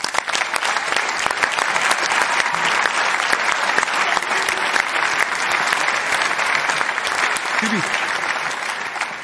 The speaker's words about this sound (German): Einen großen Applaus.